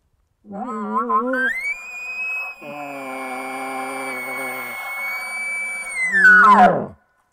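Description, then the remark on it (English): A bull elk display bugle, or lip-buzz bugle, imitated by a hunter through a call tube, buzzing the lips inside the tube on the high note: a low moan climbs sharply into a long, steady, high-pitched whistle, then breaks into a rough, loud grunting finish before cutting off. “The display bugle is basically the call the bulls use to display their dominance to the cows.”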